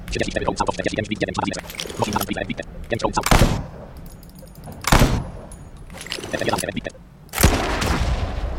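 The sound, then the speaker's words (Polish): A burst of rapid gunfire into a wall, with bright metallic tinkling of shell casings bouncing off the wall, followed by three sharp, loud shots spaced a couple of seconds apart, with a voice talking underneath. “Jak w ścianę strzelasz, to się łuski fajnie odbijają.”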